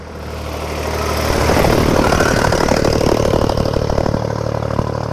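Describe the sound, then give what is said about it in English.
A tractor's heavy diesel engine grows louder as it approaches and goes by, rumbling steadily with a clattering, throbbing drone. No one speaks. “And another tractor going by.”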